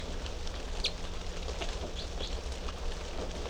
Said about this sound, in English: And these are the three type 3 birds in cell number 3.